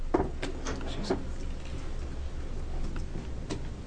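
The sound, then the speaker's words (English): A keyboard being handled or shifted, giving a few scattered clicks and light plastic knocks at irregular intervals, over a steady low hum. “Just a keyboard, I think.”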